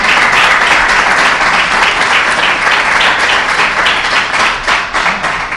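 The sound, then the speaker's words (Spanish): A crowd applauds steadily for several seconds, a dense, even wash of many hands clapping at full volume with no clear rhythm, tapering slightly near the end. “Un aplauso.”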